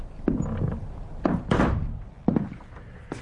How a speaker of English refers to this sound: Close the door. All right.